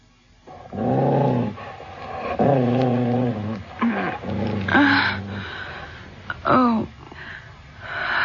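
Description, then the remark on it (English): A dog growls and snarls in several loud, drawn-out bursts with short pauses between them, rising and falling in pitch; no one speaks. “Does the dog frighten you”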